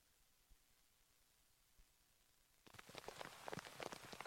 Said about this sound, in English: Welcome back to New Hampshire Motor Speedway. Hardest rain of the day here, and it looks pretty bleak as far as resuming racing.